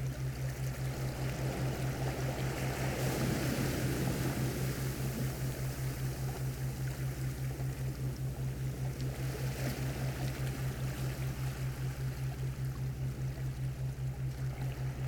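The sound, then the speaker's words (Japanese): Ocean waves wash in a continuous hiss, swelling slightly early on, over a steady low pulsing drone. No voices are heard. “このままずっと波の音に浮かされ続けていればいい。”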